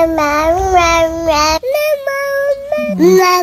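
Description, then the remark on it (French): A baby babbles in a high, sing-song voice, repeating 'ma-ma' syllables in a few quick bursts followed by longer drawn-out cooing tones, fairly loud with no other voices. “Je vous ai trouvé quelques enregistrements de bébés qui le font, on écoute.”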